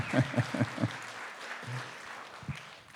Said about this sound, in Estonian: Teeme Jeesusel üks vägev aplaus täna hommikul.